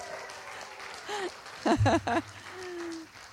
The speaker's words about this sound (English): Give a big cheer for this family.